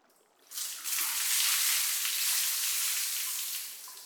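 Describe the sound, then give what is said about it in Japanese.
A steady, hissing rush of hot water poured to rinse off foam starts abruptly after a brief quiet moment and flows evenly for about three seconds before easing off slightly. No voices are heard. “でも、もっとかけないと泡は全部流れませんよ。”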